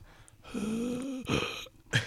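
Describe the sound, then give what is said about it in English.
A voice mimics labored breathing, imitating the sound a blank-staring grocery store checkout worker's face would make: a drawn-out, strained breathy moan, then a couple of short, rough exhaled puffs, with no words. “See, even that's like too much like that's a labored breathing.”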